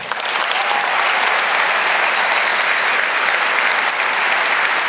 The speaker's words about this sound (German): Und jetzt bitte ich Sie um einen herzlichen Applaus